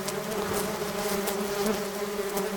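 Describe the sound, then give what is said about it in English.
A steady, dense drone of many bees buzzing, a continuous humming swarm with faint brief high crackles scattered through it, no voices. “Are bees like raptors or T-Rexes? Like when they get angry, like do they like with movement?”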